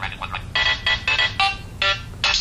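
A phone ringtone of a self-made video game theme song played from a MIDI file, a bright, bouncy electronic melody with short repeated notes in a quick, jaunty rhythm, clear with a faint low hum underneath.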